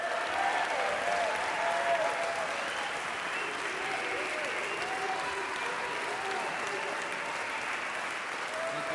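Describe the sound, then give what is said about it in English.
Steady audience applause for the evening's speaker, Jim Hightower, former Texas Commissioner of Agriculture, fills the whole stretch, a dense, even clatter of many hands clapping at constant loudness, with a few faint voices and cheers mixed into the wash. “Let's give the former Texas Commissioner of Agriculture, Jim Hightower, a big round of applause.”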